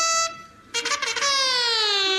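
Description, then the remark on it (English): An alarm, sounded on Major Bloodnock's order as the enemy approaches, blares loudly in a steady, buzzy harmonic tone. It drops out briefly, then returns in rough bursts before settling into a long sustained blast that sinks slightly in pitch. “Enemy are approaching, sir. What? Sound the alarm.”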